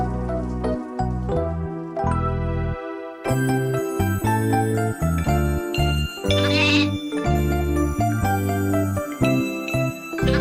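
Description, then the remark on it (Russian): A young goat bleats repeatedly in short, wavering cries over a bright, jingling musical backing that plays continuously throughout, fairly loud. “У меня живет козленок, я сама его пасу.”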